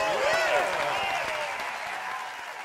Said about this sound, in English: Here we go. Oh, just stand up and clap